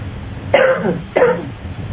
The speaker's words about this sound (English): Now cough and see if it doesn't feel better.